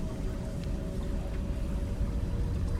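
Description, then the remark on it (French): Steady, continuous rushing of river water a few metres away, a dense low wash with a faint constant hum running through it and no voices. “La rivière est toujours à quelques mètres.”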